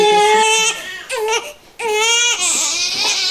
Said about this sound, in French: Alors, on te fait entendre le pleur de bébé. Tu me dis, ben, c'est quoi son besoin?